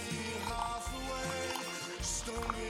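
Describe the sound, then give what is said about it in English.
Dark golden beer from a 500 milliliter bottle pours steadily into a glass for a few seconds, a continuous splashing fizz with a steady tonal hum underneath and no talking. “Okay, the pour.”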